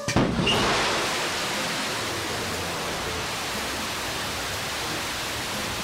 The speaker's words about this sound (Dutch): Hier hoorde u de raket van Jeff Bezos, om het zo te zeggen. De New Shepard, waar ook Nederlandse deelname bij was.